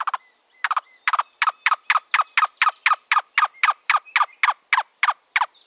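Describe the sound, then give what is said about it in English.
A cuckoo, a slender brown and white bird with a long white-spotted tail, gives a long, steady series of hollow, knocking notes, about three per second, clear with a quiet background. “Cuckoos perch quietly and scan their surroundings for food.”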